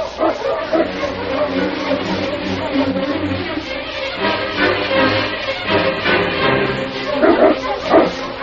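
A pack of sled dogs, with the dog King in the lead, barks and yips in an excited, overlapping chorus as they travel at a fast pace, loud, with no break for the whole stretch.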